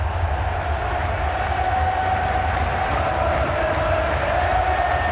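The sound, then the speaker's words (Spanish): A massive football stadium crowd roars at a chance in front of goal after a backheel by Mendy, in one steady, continuous wall of sound, loud, with a heavy low rumble underneath and no single voice standing out. “De repente solamente escuchas un rugir.”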